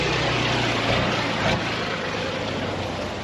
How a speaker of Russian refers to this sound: Сейчас мы находимся на огневой позиции. Машина старшего офицера батареи едет на огневую.